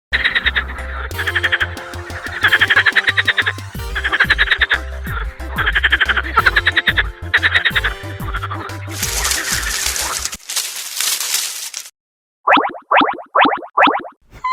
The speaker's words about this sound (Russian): А чей это голос? Правильно, это квакает лягушка.